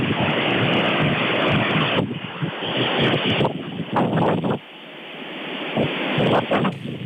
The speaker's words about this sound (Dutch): Maar ja, het wordt wel spannend. Want er is gewoon heel veel wind.